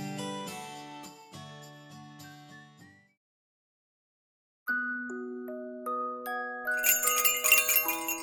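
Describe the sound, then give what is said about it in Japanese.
A bright electronic shop door entry chime plays a short melodic run of tones, falls silent for a moment, then sounds a rising sequence of ringing notes that sustain and shimmer, with no voices. “チャイムの音に振り返ればそこにはいつもの笑顔。”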